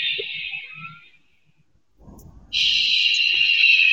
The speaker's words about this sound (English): It sounds like you've got sirens in the background. That's not me.